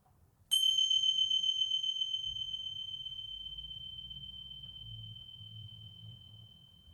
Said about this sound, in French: Chaque exercice va démarrer par un petit son, comme une cloche, comme une clochette. Ce son-là.